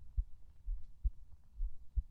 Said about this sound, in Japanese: お、いい具合に心音取れてない？今心音聞こえる？